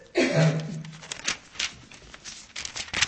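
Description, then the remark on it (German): Thin Bible pages rustle and flutter as several pages are flipped in quick succession to reach chapter 4, verse 15, with a brief low murmur near the start and soft crinkling bursts through the rest. “Und wir blättern weiter zu Kapitel 4, Vers 15.”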